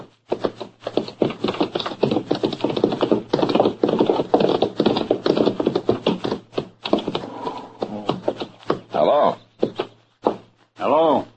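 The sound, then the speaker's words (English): Horses bearing Granby's brand clip-clop in a steady rhythm as they are driven, while people talk over them, the hoofbeats continuing beneath the voices throughout. “Well, those are his horses you're driving.”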